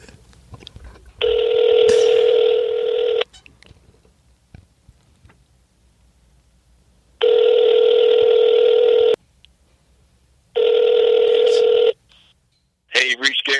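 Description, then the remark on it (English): Telephone call tones of an incoming call: three long, steady buzzing rings, each about two seconds, separated by uneven pauses with faint background noise, then a short burst of tone at the very end. “sorry I missed your call.”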